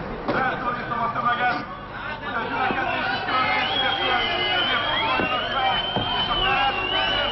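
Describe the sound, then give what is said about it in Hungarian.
A dense crowd of protesters gathered on Kossuth Square by the Parliament chatters and murmurs in a steady, overlapping babble, with occasional louder shouts rising above the continuous hubbub throughout. “Ők a tömeg.”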